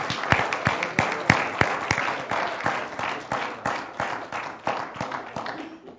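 A standing church audience applauds for God as the pastors come forward: a dense, steady wash of clapping with sharper single claps popping out at a regular beat, about twice a second. It stays fairly loud throughout, with no voices.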